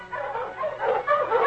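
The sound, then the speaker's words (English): A pack of Malamute sled dogs, led by the great dog King, barking and yipping together by a small cabin in a steady, overlapping chorus, moderately loud, with no one speaking. “The great dog King ran ahead of the pack.”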